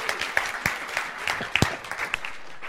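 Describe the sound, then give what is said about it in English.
Steady audience applause welcoming Karen back, with many overlapping sharp claps forming a dense, continuous patter, a few louder individual claps standing out, and no voices over it. “Would you give Karen a warm welcome back?”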